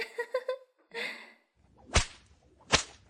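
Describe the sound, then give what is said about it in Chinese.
Two sharp, loud whip cracks land about a second apart, each a sudden snapping lash over a quiet background, following a few brief tonal sounds at the start. Someone is whipping a naked man crawling in a park. “现在解开他的笼子，让他在公园里光着屁股爬，用鞭子打他”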